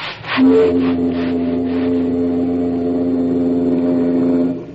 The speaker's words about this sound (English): Oh, just a lot of steam blowing through a whistle.